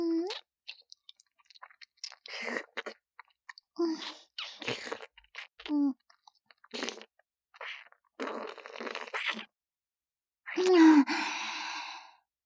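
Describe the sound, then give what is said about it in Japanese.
Wet chewing and mouth sounds in irregular bursts, with soft sighing breaths and short pauses between, ending in a louder, longer exhale. “これ、いっぱいもぐもぐしちゃうね。”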